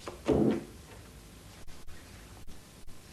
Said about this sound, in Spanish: cierra la puerta.